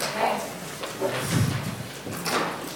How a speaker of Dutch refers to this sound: Oh, even mijn stoel bijschuiven.